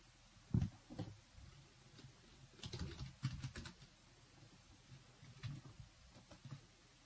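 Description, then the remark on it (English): Faint, irregular clicking of someone typing on a computer keyboard, with scattered bursts of keystrokes and short pauses against a quiet background. No one speaks. “Still typing.”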